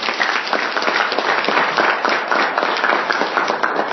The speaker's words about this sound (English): You love the Lord, give him a good hand clap and pray.